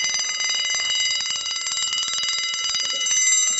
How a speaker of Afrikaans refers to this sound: Ja, sy sê vir jou slaap, want die tweede wekker gaan nou afgaan.